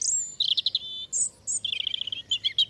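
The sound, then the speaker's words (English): A European robin, a small songbird not much bigger than a chickadee, sings a rapid, high-pitched warbling phrase of thin whistles and trills, bright and clear against a quiet low background hum, with no talking. “The roots of its common name lie in Europe, though, and a distant relative, a bird not much bigger than a chickadee, the European robin.”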